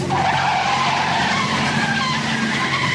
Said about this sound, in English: he's holding a gun in the other hand, puts the car into a controlled 180 spin. He puts the car in reverse and he's now facing the car of the driver that's fast approaching them, and he is firing at him.